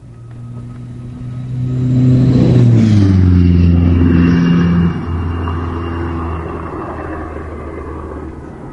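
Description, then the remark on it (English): The Diesel Max high-speed car roars past on a test run in a single loud whoosh, its engine whine sliding down in pitch as it goes, then trailing off into a steady fading drone of support vehicles struggling to keep up with it. “You hear it whoosh past, and then the noises afterwards are actually the support vehicles struggling to keep up with it.”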